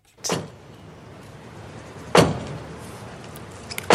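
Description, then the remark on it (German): Three heavy, booming knocks of the Paris archbishop's bishop's staff against the massive wooden door of Notre-Dame Cathedral in Paris, spaced about two seconds apart, each ringing out with a reverberant echo. No one speaks. “Dieses Klopfen kommt vom Pariser Erzbischof, der mit seinem Bischofsstab am Samstag an die massive Holzpforte der Kathedrale Notre-Dame geklopft hat.”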